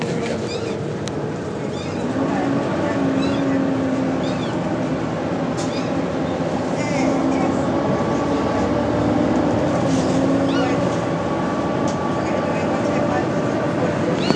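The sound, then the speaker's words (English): A bus engine whines steadily throughout, a sustained droning hum with tonal overtones over a constant rumble of road noise, heard from inside the vehicle at a fairly loud, even level. “But the bus engine's whining at the moment, which is going to make the cat whinge and whine even more.”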